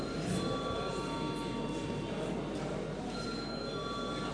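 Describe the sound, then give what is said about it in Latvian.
A steady electric bell rings without pause for the whole stretch in a parliament chamber, called for before deputies vote on a bill in its third and final reading. A bright, buzzing metallic tone sounds over a dense rattling background, with no talking. “Lūdzu zvanu.”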